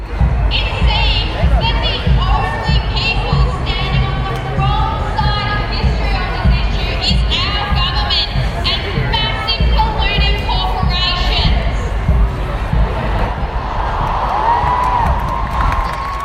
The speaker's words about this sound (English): In Melbourne, a massive crowd gathered at Treasury Gardens before marching through the city centre.